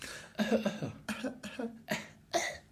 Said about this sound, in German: Jetzt musste ich husten und habe auf den Knopf gedrückt. Wahnsinn, krass. Ich hoffe, es hat geklappt. Ja, wahrscheinlich hat man es über mein Mikrofon gehört. Aber nur ganz leicht.